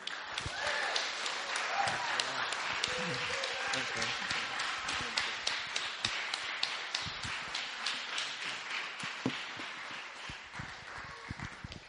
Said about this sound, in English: Can we give him a big cheer?